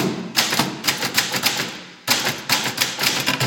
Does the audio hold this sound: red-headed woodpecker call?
no